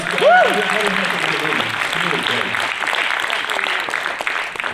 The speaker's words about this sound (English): So, yes, you can applaud.